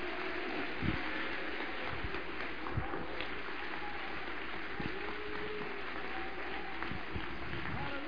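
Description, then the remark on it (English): A church audience applauds God in a steady, dense wash of clapping that holds evenly for about eight seconds, with a few voices calling out underneath. “Let's applaud Him, everybody.”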